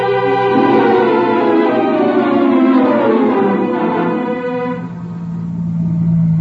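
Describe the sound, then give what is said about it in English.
A car engine hums loudly and continuously, its pitch rising and sinking as it drives along, then settling into a lower, steadier drone near the end. No one speaks. “I got a car downstairs.”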